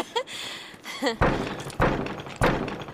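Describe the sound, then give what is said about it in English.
Three loud, heavy knocks on a solid wooden door set in a sturdy stone wall on a rocky peak, evenly spaced, each a dull thud with a short ringing decay, preceded by a couple of brief high-pitched vocal chirps. “Well, I suppose we should knock.”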